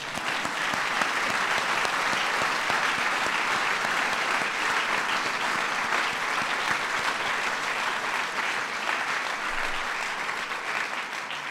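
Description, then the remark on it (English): Sustained applause from a large audience at a Points of Light event attended by President Bush, recognizing Michelle Nunn, CEO of Points of Light. A dense, steady wash of clapping holds at an even, fairly loud level for the whole stretch with no speech over it. “It's worth an applause here.”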